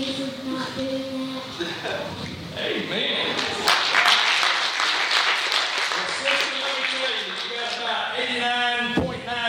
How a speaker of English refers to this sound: She'd like to read the Bible now instead of waking up and watching TV every morning. I think that's worth a hand clap.